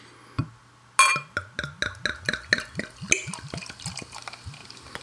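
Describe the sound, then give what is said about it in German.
Unfiltered, unpasteurized beer glugs from a bottle into small tasting glasses in a quick, steady run of gurgling pulses that rise in pitch as the glass fills, preceded by a single sharp click. Clear. “Oh, ich habe zu kleine Gläser heute. Die Tasting Glazers.”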